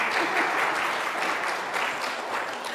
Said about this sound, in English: You want to clap for that too?